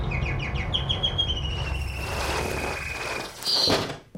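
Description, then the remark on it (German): A canary chirps in a quick run of bright, high notes, then draws out a long thin whistle before a sharp squeak near the end, all over a low rumbling background. “Ich warte hier mit diesem Häufchen Vogelfutter da in meiner Hand, bis das Kanarienvögelchen, bis das es Hunger kriegt.”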